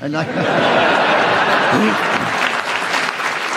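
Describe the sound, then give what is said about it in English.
A studio audience bursts into sustained, loud applause that fills the whole stretch, with scattered chuckles and a few voices murmuring underneath the clapping. “Well, you weren't interrupted, even if it was by me, and the audience clapped, so we give you the bonus point,”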